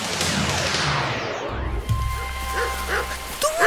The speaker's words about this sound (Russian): Дождь! Ветер! Холодно-то как!